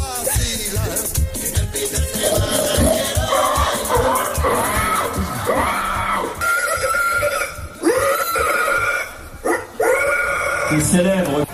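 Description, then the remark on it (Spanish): A person in a contest for imitating pigs imitates pig squeals with a run of loud, strained, high-pitched squeals and grunting wails, with brief pauses between cries and faint crowd noise behind. “Y es un concurso en el que la gente compite por ver quién imita mejor el sonido de los cerdos.”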